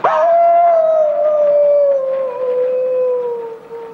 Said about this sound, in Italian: Lupo ulula. Lupo lula? La? Cosa? Lupo ulula e castello ululì.